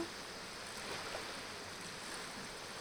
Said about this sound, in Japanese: 川に来るの久しぶりだったの？もうちょっとゆっくり川の音を聞いていたいん？オッケーな。じっと耳を澄ませて聞いてみる。確かにいい音なんだ。